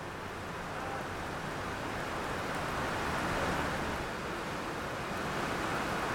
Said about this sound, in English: I am here at Transplanting Traditions, and right now we are hearing the rain